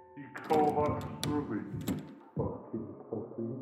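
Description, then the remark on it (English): A locked apartment door being tried: several sharp metallic clicks and rattles of a handle and latch in quick succession, over a humming, voice-like tone that continues after the rattling stops. “but Doug ignored it and tried the apartment door.”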